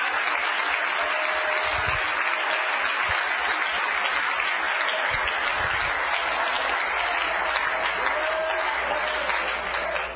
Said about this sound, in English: In Jesus' lovely name, clap your hands, all ye people.